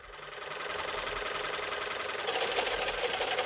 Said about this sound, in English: Oh, darn. There it goes again. I'll never get this dress finished in time for the club meeting. What's the matter, kiddo? Having trouble with your sewing machine?